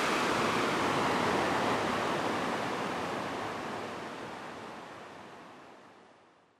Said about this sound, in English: A 1.1 kilometer detour? Very worth it. Not even just for the waterfall at the end, but the whole walk along the waterway is very unique and very cool.